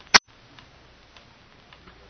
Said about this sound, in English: Listen to that ticking. That's fate counting what may be the last minute of our lives. As long as you can hear the ticking, you don't have to worry.